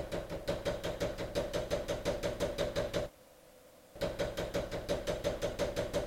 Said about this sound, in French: On frappe à la porte. C'est tôt le matin, ça n'arrive jamais. J'ai peur. Le jour n'est pas levé, il fait encore brun dehors. Mais arrêtez de taper si fort ! J'arrive.